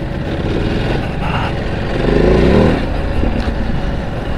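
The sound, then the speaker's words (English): A car's engine cooling fans kick in and whir steadily alongside the drone of a very hot engine: a loud, continuous rushing hum with a slight swell midway through and no talking. “So, fans just kicked in. It's absolutely roasting this engine.”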